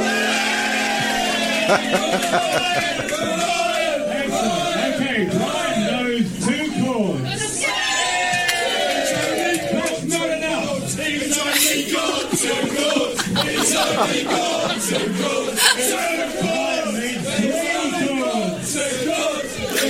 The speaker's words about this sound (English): The magic of radio, we can transport you back now to last Sunday and just have a listen to the crowd responding